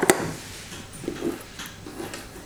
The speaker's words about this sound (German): Hund, kannst du mal aufhören? Oh, ey.